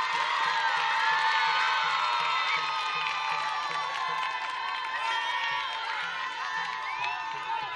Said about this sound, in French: On applaudit très très fort